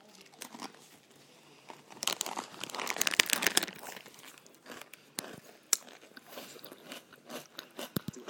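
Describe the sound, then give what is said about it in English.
Crisp crunching of food being chewed right near the microphone, with irregular bursts of crackly bites and crinkling, loudest in the middle, with no voices. “Excuse my crunching right near the microphone.”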